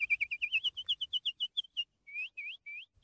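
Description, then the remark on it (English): A nightingale sings a rapid run of about fifteen sharp, bright chirps, followed by three slower, rising whistled notes, clear and alone with no voices. “All he owned were a beautiful rose tree and a lovely nightingale.”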